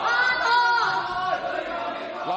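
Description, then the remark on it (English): Opposition lawmakers in Hong Kong shout down Chief Executive Carrie Lam a few sentences into her annual policy speech, a loud, continuous clamor of many overlapping raised voices with no pause for the full stretch. “Opposition lawmakers shouted down the city's chief executive just a few sentences into her annual policy speech, leading her to abandon the live event and issue a pre-recorded address instead.”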